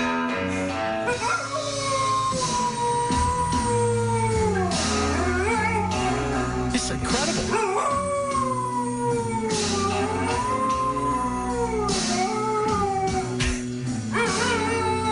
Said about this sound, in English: Dog is just howling along with it. You just found it. Dog's got some soul. I feel like he's singing blues.